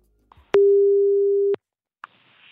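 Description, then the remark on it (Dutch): A single steady, mid-pitched telephone ringing tone lasting about a second, bracketed by soft clicks, followed by another click and a faint line hiss as the call connects; a BNR Nieuwsradio presenter placing a phone call. “Zullen we even gaan bellen?”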